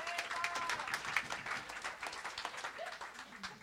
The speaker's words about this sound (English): Can have a big round of applause for Bob.